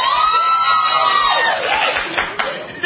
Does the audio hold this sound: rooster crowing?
no